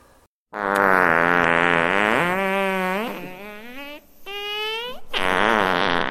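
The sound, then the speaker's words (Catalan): A long, loud, buzzy fart sound effect that stretches for several seconds, its pitch bending and wobbling, with a short pause before a final burst. “I de tip com estava, el bou va deixar anar un gran pet.”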